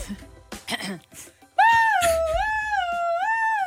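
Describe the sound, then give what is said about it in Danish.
A voice imitates an ambulance siren with a loud, sustained wail that rises and falls in pitch in slow waves, following a few brief murmured sounds at the start. “Du ved godt, hvordan en ambulance lyder. Kan du lige lyde som en ambulance?”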